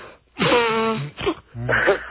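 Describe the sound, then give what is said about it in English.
Someone with a cold blows their nose in three honking bursts, a long wet, tonal blast followed by two shorter snorts, loud and with no talking over it. “Are you blowing your nose?”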